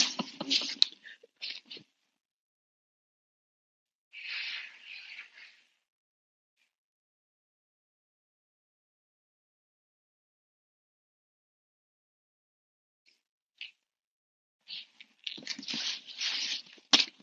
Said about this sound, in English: Hang on, guys, I gotta blow my nose.